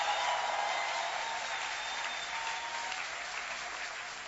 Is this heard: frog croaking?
no